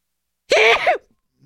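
A single loud sneeze erupts in one sharp, breathy burst with a voiced edge, lasting about half a second before it stops, and a faint murmur follows.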